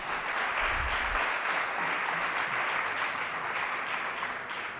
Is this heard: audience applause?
yes